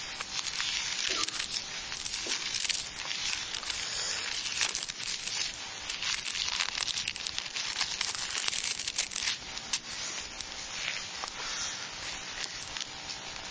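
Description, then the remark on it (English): Steady rustling and crinkling of thin Bible paper pages being turned and shuffled, a continuous soft papery hiss with small flicks throughout and no voices. “One of the most wonderful things someone could publish in mass would be Bibles that are not printed on Bible paper. So yeah, lick your fingers 1,000 times to get through this thing, and you can't write on them.”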